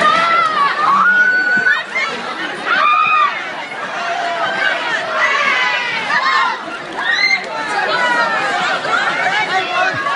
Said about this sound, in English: Here on Friday at a Walmart in Moultrie, Georgia, a crowd of more than 100 shoppers went wild for a sale of prepaid cell phones. Video went viral on YouTube over the weekend.